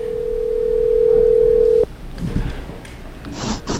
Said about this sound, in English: Let's see if he picks up his walkie-talkie. Should be ringing.